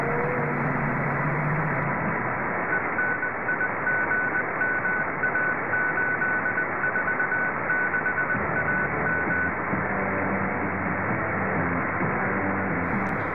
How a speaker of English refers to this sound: There they are. There was no talk in that. It was just music and Morse code. Radio Enigma on 846 kilohertz, medium wave, using AM mode. That was a test transmission from the 28th of March 2010.